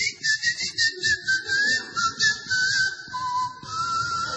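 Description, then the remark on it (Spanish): Someone whistles a short, wavering melody, the pitch gliding between steady notes for a few seconds, clear, with a low muffled rumble of background noise underneath. “Entonces lo cambié por el chiflido.”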